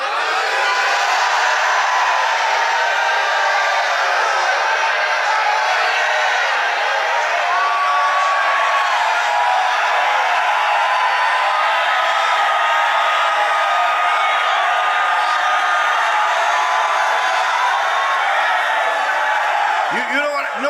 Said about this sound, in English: Let them shout for joy.